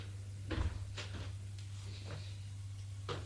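A door being opened: a few short clicks and knocks of the handle and latch, spaced out over a few seconds, over a steady low hum, with no voices.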